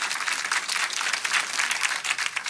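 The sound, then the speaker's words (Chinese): A church audience claps loudly and steadily during a service to give glory to the Lord, a dense wash of many hands without pause, with no voices rising above the applause. “哎，拍手把荣耀归给主好不好？大声一点，大声一点。”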